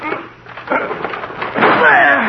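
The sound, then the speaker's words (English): A locked door is forced open by two people's heavy shoulder blows: a couple of dull impacts build to a louder splintering crash, with muffled voices around the effort. “Well, we've got to break the door down.”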